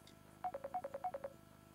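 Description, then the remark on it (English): A quick run of nine short electronic ringtone beeps, alternating slightly in pitch, plays alone for about a second before stopping: an incoming WhatsApp call ringing. “Okay, another call coming in via WhatsApp.”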